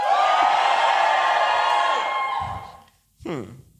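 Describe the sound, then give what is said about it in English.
A large audience at a sermon shouts out together in response to the preacher's prompt, in a loud, sustained burst of many overlapping voices that fades out after a couple of seconds, followed by a single voice beginning to speak. “Just in case you shouted out of peer pressure, let me explain.”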